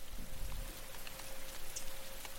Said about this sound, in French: Et puis donc là, on va à Shimultala. Ah, il commence à pleuvoir là.